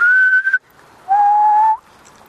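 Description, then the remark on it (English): A person whistles two clear, steady single-pitch notes, a higher one and then a slightly lower, longer one after a brief pause, fairly loud with no talking. “Whistling is pretty amazing, that if you look at a spectroscope, that's pretty one frequency.”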